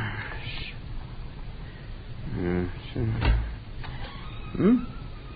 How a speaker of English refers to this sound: Blasted door. Let's get that catch seen to.